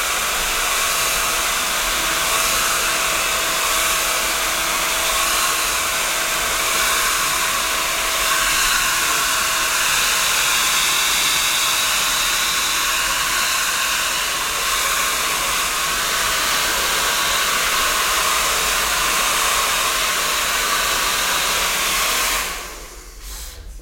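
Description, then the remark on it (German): A hair dryer blows steadily while drying someone's hair, a loud continuous whooshing hiss that holds for about twenty seconds before cutting off abruptly near the end. “Jetzt kommt noch mal ein bisschen eine Föhnung.”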